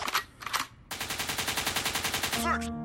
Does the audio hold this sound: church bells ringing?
no